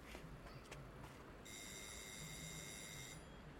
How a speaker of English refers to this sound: I think he said it had a red door. I'll ring the doorbell.